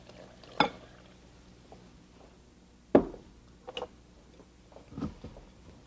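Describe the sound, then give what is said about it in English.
Two cups of plaster and one cup of water being mixed in a bowl: a few sharp clinks and scrapes at irregular intervals, with softer stirring taps between them over a low, quiet background. No one speaks. “2 parts of the plaster. And 1 part of the water.”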